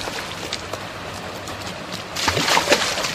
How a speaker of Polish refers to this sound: To jest natleniacz, tak zwany aerator, który dotlenia wodę po to, żeby zachować odpowiednie parametry wody i dobrostan ryb.